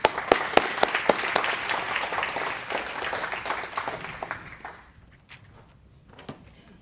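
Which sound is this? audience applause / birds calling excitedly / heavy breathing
audience applause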